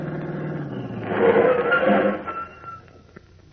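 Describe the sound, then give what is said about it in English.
A car engine rumbles closer, swells briefly with a faint squeal of brakes, then winds down and falls quiet as the car pulls up and stops in front of a house, followed by a few soft clicks. “Pulled up right in front of the house.”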